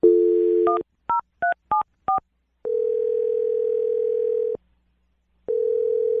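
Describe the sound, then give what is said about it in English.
A steady dial tone, then five quick touch-tone beeps as a phone number is keyed in, followed by a long ringback-like tone, a pause, and the tone starting again. No voices. “So I'm going to dial the phone number right now, and we're going to try and get your second date update, all right?”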